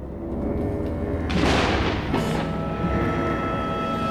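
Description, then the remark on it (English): Thunder rumbles low and steadily throughout as lightning flashes, with a sharp crackling burst about a third of the way in and a second, shorter crack soon after, then rolling on. “Lightning flashes through the leaded windows, whose drapes are left open, casting an eerie light on the corridor.”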